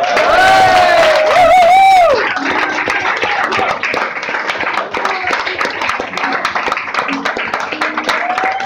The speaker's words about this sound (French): Donc je voudrais que vous l'applaudissiez un peu plus fort.